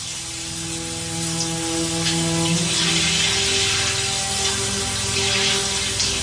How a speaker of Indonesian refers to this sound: Suasana perumahan ini sangat hening jika malam hari. Sampai aku dengar suara keran air mengocor dari kamar mandi.